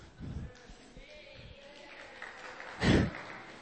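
An audience claps in brief, scattered bursts over a low crowd murmur. A short patter comes at the start and a louder burst follows near the end. No one speaks.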